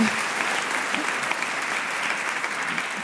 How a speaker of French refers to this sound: En parlant de ministres, d'ailleurs, j'ai une pensée émue pour Amélie Oudéa Castéra, qui aura tenu 28 jours au ministère de l'Éducation nationale. Et ça, ça s'applaudit.